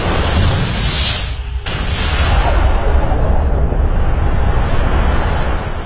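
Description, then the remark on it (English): A sound effect depicting the Big Bang: a massive, roaring explosion fills the whole frequency range, briefly cut by a sharp break before surging into a sustained, rumbling blast that stays loud and dense without any voices. “Follow the clues, and we can deduce that a very long time ago, the universe simply burst into existence. An event called the Big Bang.”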